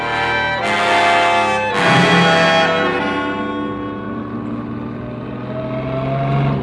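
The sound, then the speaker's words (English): A police car's engine roars, surging twice in quick bursts of acceleration before settling into a steady, loud drone as the car drives on. No one speaks. “Slow down to this corner, Blue Bottle.”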